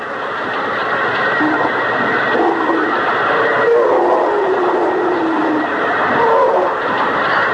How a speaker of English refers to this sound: It's going through like butter. It won't be long. Hey! Arthur, stop the drill.